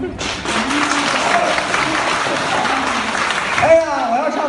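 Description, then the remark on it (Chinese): Sustained audience applause at a stage crosstalk (xiangsheng) comedy performance, a dense crackle of many hands clapping at steady loudness for several seconds, with a voice speaking briefly over it near the start and again at the end. “听见什么了就好， 我都没听见掌声。”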